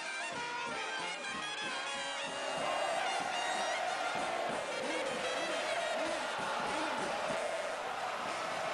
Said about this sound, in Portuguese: Uma multidão transforma o tradicional minuto de silêncio em homenagem ao ídolo num coro de milhares de vozes.